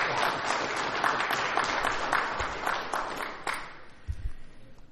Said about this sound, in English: And so if y'all don't mind, I just want to give the mothers a hand clap. Can we do that this morning? All right.